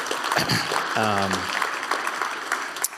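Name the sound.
church audience applause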